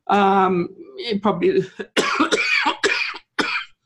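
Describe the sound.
A person coughs repeatedly, starting with a drawn-out, throaty voiced sound and then several harsh, rapid cough bursts in quick succession with brief pauses between them.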